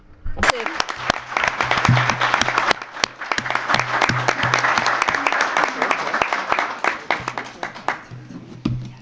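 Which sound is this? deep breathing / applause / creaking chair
applause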